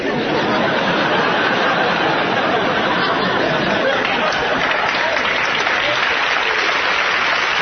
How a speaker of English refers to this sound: Every time people applaud, I'm always going, no, hold on.